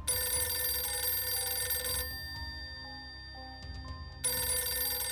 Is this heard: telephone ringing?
yes